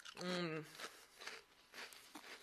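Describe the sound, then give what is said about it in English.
Someone chewing Pringles potato crisps on camera, a handful of crisp, irregular bites following a short voiced hum at the start. “I hope you can't hear me chewing too much because that might be not very nice for you. This is one of my favorite foods, Pringles.”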